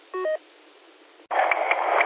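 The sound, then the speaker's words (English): A cell phone rings once in the background of a transmission, a brief chirp through a thin, band-limited channel, then quiet line hiss gives way to a louder burst of static-like noise with faint repeating tones. “Well, it's so clear now that I can hear the cell phone ringing in the background.”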